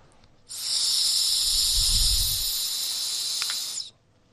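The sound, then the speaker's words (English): A steady, airy hiss of someone blowing hard into a breathalyzer for about three and a half seconds, with a brief low rumble of breath midway, then it cuts off abruptly. “Right, see, so yeah, when it says blow, then blow into there.”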